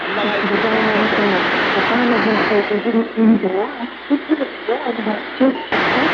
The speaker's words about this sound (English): Now we go to plain old white noise, and listen to this.